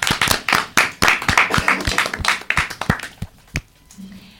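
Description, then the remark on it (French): A small group applauds themselves after a quiz, a quick uneven patter of overlapping hand claps that gradually thins out into a few final scattered claps before stopping. “Eh ben, bravo pour ce quiz. On peut s'applaudir.”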